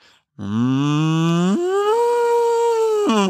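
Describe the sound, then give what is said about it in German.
A person imitates a cow with one long, loud, drawn-out moo that starts low and steps up to a higher, nasal pitch before rising again at the end. No other talking. “machen wir eine Kuh.”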